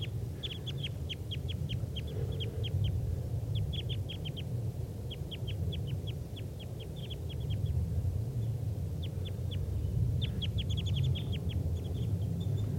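birds calling in trees

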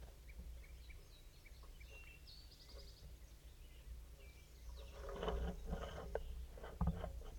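wild crossbill calling

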